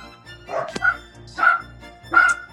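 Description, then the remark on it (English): Three sharp, high-pitched barks from two dachshunds, Oscar and Mike, at a steady pace, with a faint hum underneath and no talking. “Sorry, the dogs are barking in the background.”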